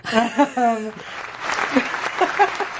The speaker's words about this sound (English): Like, applause for Constance Marie.